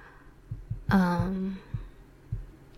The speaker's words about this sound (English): What am I thinking about? My heartbeat,